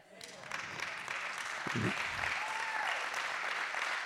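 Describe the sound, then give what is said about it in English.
A church audience claps steadily in a round of applause to the Lord, a dense, sustained wash of applause that swells within the first second and holds loud to the end, with a brief voice or shout poking through midway. “So give a big round of applause to the Lord.”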